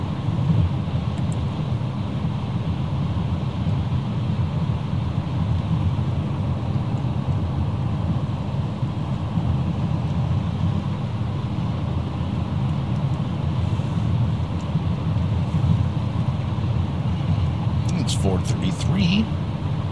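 Steady, loud road noise from a car cruising on the I-80 highway towards Omaha, past fields with some snow: a constant low rumble and tire roar with a faint wind hiss, unchanging throughout, heard from inside the vehicle.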